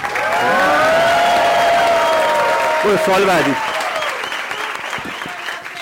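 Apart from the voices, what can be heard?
audience applause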